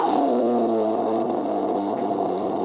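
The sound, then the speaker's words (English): A voice imitates the low rumble of a big water tank in a film scene, holding one steady, gravelly drone for nearly three seconds without a break or any words. “Just huge scenes where they're, like, all of the actors are gathered around some big sort of water tank that's got dolphins in it or something. And the water tank is just going...”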